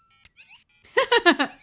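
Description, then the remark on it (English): A toy Mario-style game's electronic sound effect for jumping on an enemy, a Goomba: a few faint chirps, then four loud, quick bouncy bleeps in a rapid burst, clear with no talking. “each level starts off by coming out of a warp pipe. Yeah. Oh. And then your timer starts and it plays the music.”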